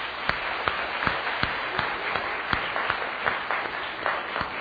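A Cantonese-speaking church audience applauds to welcome guests at Christmas. The applause is a dense, steady patter of many hands with a few sharper individual claps standing out, sustained at moderate loudness throughout without talk.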